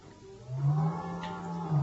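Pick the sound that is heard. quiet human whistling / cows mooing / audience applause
cows mooing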